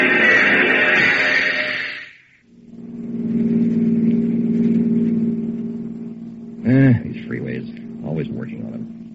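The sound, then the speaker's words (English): Car engines drone and rev in rush hour traffic, a steady low rumble, with a sharper whining burst at the start and indistinct voices rising over the noise near the end. “Why can't they make their repairs on off hours? No, gotta blast away during rush hour traffic.”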